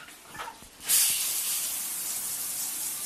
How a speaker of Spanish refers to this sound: El agua corre llenando el baño